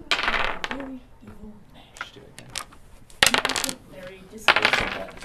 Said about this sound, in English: He and five other young teens sit around a table, each rolling dice and flipping through game manuals, peering over thick binders, each with hundreds of pages of information.